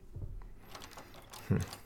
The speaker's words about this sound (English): He locked it? Hey, open this door. I know you're in there. Hey, stop ignoring me. Open up.